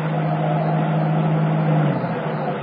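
A car engine hums steadily with a low droning tone over a broad rumble, constant in loudness, as the car comes down a pier, the low note cutting out near the end. No one speaks.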